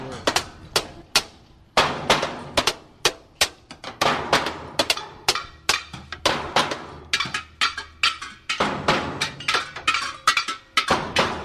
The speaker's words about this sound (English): This looks like it's the bang on everything jam. The bang on anything you can possibly bang on, including washing machines. We've got the canister mint. We've got an upside down plastic something strapped around one of the players.